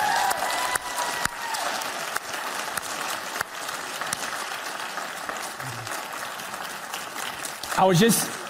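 Sustained audience applause fills the room, a dense steady clatter of many hands clapping, with a brief louder burst of crowd noise near the end.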